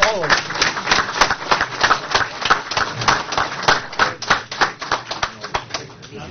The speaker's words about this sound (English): All right. But you give them all a round of applause.